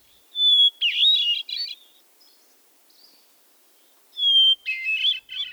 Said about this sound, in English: Some believe the song of the wood thrush to be the most beautiful bird song in North America. Others select the song of the hermit thrush.